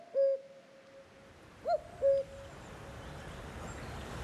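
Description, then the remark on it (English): A cuckoo sings with soft, hollow hooting notes: one lone note, a pause, then a clear two-note falling 'cu-ckoo', over a faint, steady outdoor hiss. “Their song is also unmistakable, the surest sign that spring has arrived, that winter is gone”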